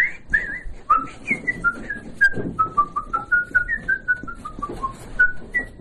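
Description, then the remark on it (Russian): Someone whistles a tune, a steady run of clear, pure notes that step up and down in short phrases, with faint background rumble and no talking. “А так по улице хожу, так я все насвистываю, что-нибудь.”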